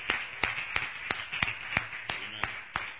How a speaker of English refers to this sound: What a miracle God put my checkbook back in my wallet. Amen. So give God a round of applause for that. Amen. Amen.